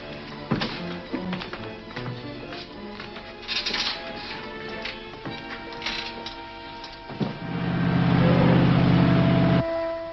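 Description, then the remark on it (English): Scattered clunks and knocks, then a boat engine starts up and runs with a loud, steady low rumble for a couple of seconds before abruptly stopping. “Take Tobel down to the boat. Start the engine.”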